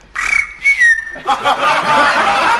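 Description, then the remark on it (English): A person whistles an imitation of a canary: a couple of sustained, sliding high notes, then a busier stretch of rapid warbling trills, fairly loud and with no talking. “That was a canary.”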